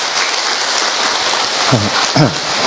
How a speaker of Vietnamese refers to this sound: Đấy, năm sơ mời các sơ lên trên này. Cho một tràng pháo tay được không thưa anh chị em?